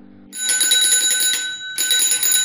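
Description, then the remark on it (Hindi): A bicycle bell rings in two rapid, trilling bursts, bright and metallic with a high, sustained ring and a brief pause between them, announcing the arrival of Chini Bas, the sweet-seller, in a Mithila village. No one speaks. “ओह, क्या आपने भी साइकिल की घंटी सुनी?”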